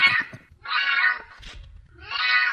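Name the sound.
cat meowing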